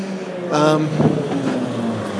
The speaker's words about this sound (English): Thought I heard the train, but it's just a truck.